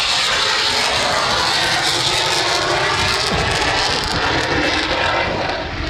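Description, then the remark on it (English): A T-38 jet aircraft roars loudly and steadily as it flies past, a dense rushing engine noise that holds its strength without fading, with no voices present. “It's a T-38. I think an airplane just went past.”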